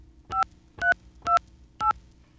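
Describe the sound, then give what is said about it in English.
Four touch-tone beeps as a phone number is keyed in on a telephone after getting a dial tone to place a call, each a short, steady two-pitch tone at an even, unhurried pace over a low background hum. “And some of you might be able to make out the phone number I'm calling.”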